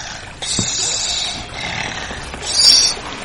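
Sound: wolf snoring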